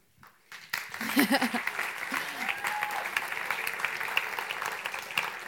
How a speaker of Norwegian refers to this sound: Jeg håper dere klapper for redigeringskunnskapene mine